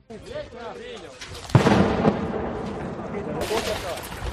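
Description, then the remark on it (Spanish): A loud burst of gunfire erupts close by in Mariupol, Ukraine, during the war, followed by sustained rumbling and cracking, with voices shouting in the background as neighbours try to rescue people from the rubble, and another harsh burst near the end. “Allí hemos visto escenas angustiosas con vecinos tratando de rescatar a personas de entre los escombros mientras los disparos se escuchan muy cerca.”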